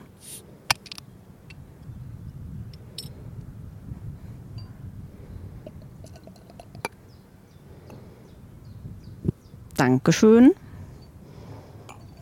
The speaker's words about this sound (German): ich hätte jetzt gesagt, hold my beer, aber hold my Mikro, damit ich die Flasche aufmachen kann.